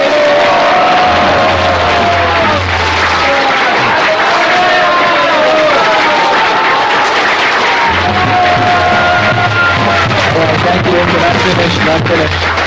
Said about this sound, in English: And ladies and gentlemen, give them a big round of applause. Теперь поаплодируйте им.